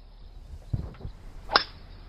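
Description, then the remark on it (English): A golf club swing recorded with the mic held relatively close, with water nearby: a couple of soft low whooshing rustles, then a single sharp, bright crack as the club strikes the ball, ringing briefly before fading. No one speaks. “I'll hold the mic relatively close so we can hear the swing.”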